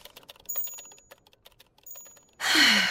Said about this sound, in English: So I sat myself down at my typewriter and hammered at the keys for all I was worth long into the night.